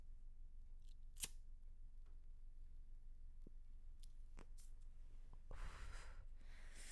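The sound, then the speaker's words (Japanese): A sharp lighter click, then a few faint small clicks and rustles, followed by a long, breathy drag and exhale from someone lighting up and smoking a paper cigarette. “ね、質問コーナー急にね、その前にですね、ちょっと一服させてください。”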